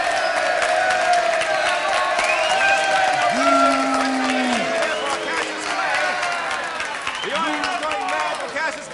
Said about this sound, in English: to make my way through the crowd of literary greats who are congratulating Clay